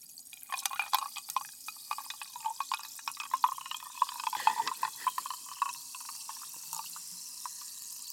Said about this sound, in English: Snap, crackle, pop, baby. That's Topo Chico.